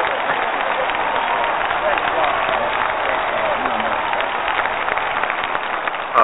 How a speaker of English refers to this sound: I tell you, I appreciate the round of applause, but the true round of applause goes, I think, in two different directions.